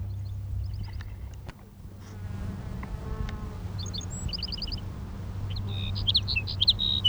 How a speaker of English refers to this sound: Here's sage sparrow number three.